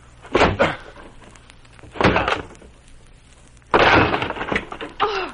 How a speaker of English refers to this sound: I'm going to break down the door.